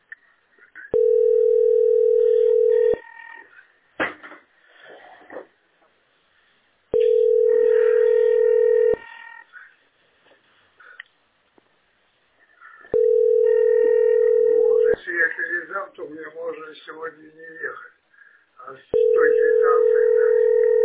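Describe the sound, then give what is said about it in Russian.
A phone line's ringback tone while calling the utility Teploenergosbyt to submit meter readings: a steady mid-pitched buzz sounds four times, each about two seconds long with roughly four-second gaps, while people talk quietly in between. “Подожди, сейчас ответит, если. Нет, сейчас нет.”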